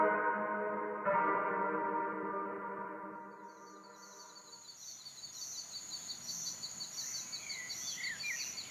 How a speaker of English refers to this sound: You walk into the woods. What do you hear? Frogs and crickets are singing, but you don't see them. They are just a part of the forest as an abstract, an idea.